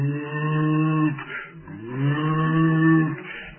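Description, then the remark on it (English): A shofar ram's horn sounds two long, mournful blasts, each a low, buzzy note that swells and bends in pitch before breaking off, with no one talking. “Think of these mournful shofar horns.”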